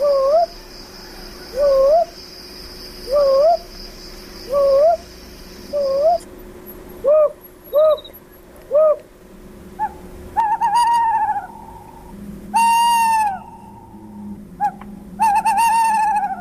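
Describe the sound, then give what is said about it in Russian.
A little owl calls repeatedly: short, rising whistled notes at a steady pace, followed by several louder, drawn-out mewing calls, with no talking. “Кстати, а кто такой сыч? Вид мелких сов. Махнологий сыч, домовой сыч.”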